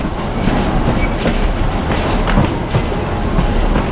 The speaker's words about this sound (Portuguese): Então, ao longo dessa nossa conversa sobre o Festival de Gastronomia e Cultura de Tiradentes, a gente vai continuar ouvindo o trem, né? Porque o trem vai continuar passando. Aumenta o trem aí,